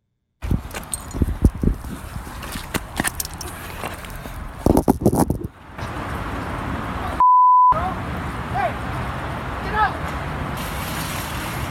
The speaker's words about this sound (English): So you can hear him. You can hear the phone at the beginning. Okay. So listen to the technical portion at the beginning.